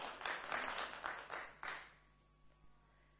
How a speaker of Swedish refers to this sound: Ni får en applåd också.